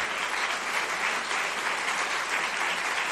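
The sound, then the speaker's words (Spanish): Sustained standing applause from a large audience for the Zapatista comandantas of the CCRI-CG of the EZLN, a dense steady wash of clapping at fairly even loudness throughout, with no voices standing out above it. “Para quienes pedimos ponernos de pie y brindarles un caluroso aplauso, símbolo de lucha, resistencia y rebeldía, porque sin ellas no estaríamos aquí.”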